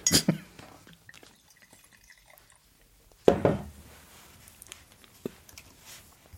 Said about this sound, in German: Ich krieg den Korken nicht mehr rein. Scheiße.